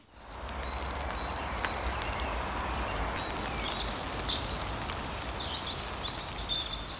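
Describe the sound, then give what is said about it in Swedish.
Steady spring rain patters softly through a conifer forest, an even wash of drips and hiss with faint bird calls now and then. “Det regnar i barrskogen. Ett vårregn som stilla sköljer bort de sista resterna av vinter.”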